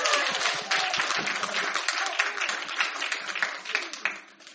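A crowd applauds for several seconds, a dense, steady patter of many hands clapping, fairly loud and sustained before tapering off slightly at the end.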